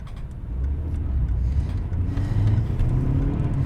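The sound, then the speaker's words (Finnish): A car engine runs steadily with a loud, low rumbling drone as the vehicle is driven out of the city; the pitch rises slightly midway as it picks up speed. No voices. “Minä ajan tämän auton kaupungin ulkopuolelle.”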